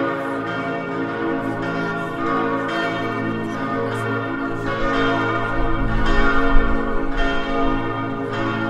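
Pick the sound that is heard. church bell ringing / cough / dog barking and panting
church bell ringing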